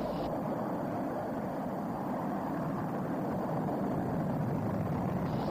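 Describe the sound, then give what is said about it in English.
A continuous, thunderous rocket engine roar from the Apollo 11 liftoff on July 16, 1969, deep and rumbling, holds at a steady loud level for several seconds with no pauses and no voices. “Liftoff. We have the liftoff. 32 minutes past the hour. Liftoff on Apollo 11.”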